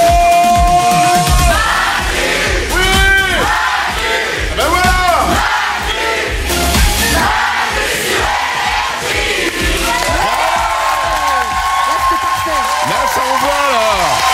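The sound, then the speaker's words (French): A large live audience at a show recording in Valmorel roars and cheers loudly and continuously during the closing credits, many voices shouting and whooping together, with clapping mixed into the dense crowd noise throughout. “Et tant que vous applaudissez, tant que vous êtes chaud, tant que vous êtes content, vous pouvez continuer à applaudir.”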